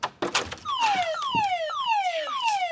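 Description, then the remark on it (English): A loud home security alarm, set while people are still in the house, blares in rapid, repeating downward-sweeping wails. It is preceded by a few brief thumps like a door, with no one speaking. “Mom, why do you keep setting the alarm when you're still in the house?”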